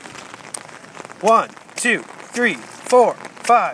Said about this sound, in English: Listen, we got our rain boots, we got our umbrellas, and we got a rainstorm, but no thunder and lightning.